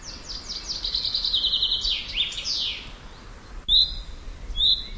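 Birds chirp and sing outdoors on Vyšehrad hill in Prague, a lively run of high, quick descending notes up front, then a pause and a few more bright calls, over a soft background hiss.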